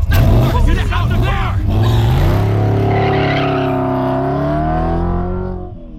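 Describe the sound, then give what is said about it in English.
A car engine roars loudly and steadily climbs in pitch as the vehicle speeds up heading west on the San Bernardino freeway, with indistinct voices over the opening seconds before the engine drone carries on alone. “We're on the San Bernardino freeway heading west.”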